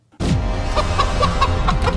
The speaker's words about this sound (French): Mais putain, mais qu'est-ce que c'est que ça, là ? C'est des bruits d'oiseaux, c'est des poules.